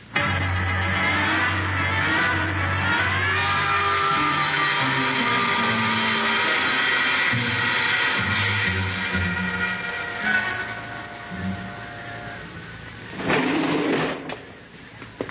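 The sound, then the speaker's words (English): A service elevator hums steadily as it descends to a basement garage, its motor whining with a constant mechanical drone, then a louder rattling clunk near the end as it comes to a stop. “There's a service elevator that leads to the basement garage.”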